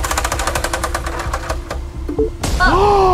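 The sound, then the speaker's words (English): A prize wheel, spun to decide what gets poured into a small room, spins with a rapid train of sharp clicks that gradually slow and stop, followed by an excited voice calling out. “Well, we thought it would be fun to have you guys spin this wheel to determine what we pour into your little room.”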